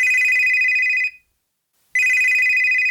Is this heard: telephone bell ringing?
yes